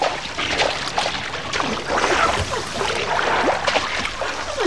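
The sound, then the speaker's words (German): Sea water sloshes and splashes continuously, with irregular small surges and trickles, as waves lap around swimmers off a beach; no voices are heard. “Die Wellen sind draußen immer höher.”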